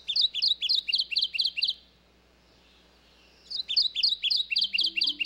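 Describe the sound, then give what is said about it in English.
A male Kentucky warbler, singing with both feet on the ground, gives a loud, clear run of rapid repeated rolling phrases, falls silent briefly, then launches into another quick, ringing series. “You might think this Kentucky warbler's bright yellow throat would be easy to find in the swampy woodlands it calls home, but he's happy to sing to the high heavens with both feet on solid ground.”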